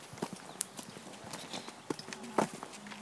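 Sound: horse hooves clip-clopping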